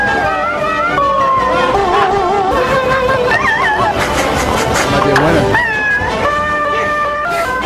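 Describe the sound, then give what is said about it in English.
Cats yodeling on a novelty record made with a sampler: a steady run of warbling, high-pitched meows bending up and down in tune over a backing track, with a voice speaking briefly over it. “I give you actual cats. Yodeling cats. Yodeling cats.”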